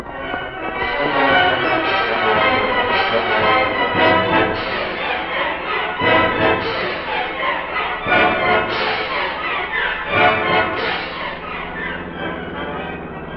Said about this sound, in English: That's a plane motor, Cato. The motor of a plane that's about ready to take off.